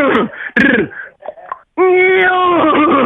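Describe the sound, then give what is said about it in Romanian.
A person imitates a horse's neigh with their voice, first in short wavering bursts, then one long, loud, shaky whinny. “Prima dată încep cu calul.”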